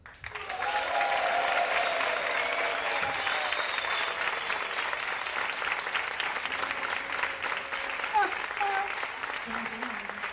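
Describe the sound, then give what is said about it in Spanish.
A crowd at a live Boca Beast Comedia comedy show bursts into sustained applause, a dense steady clatter of many hands clapping for about ten seconds, with some cheering mixed in before it tapers slightly at the end. “¡Un fuerte aplauso para Boca Beast Comedia!”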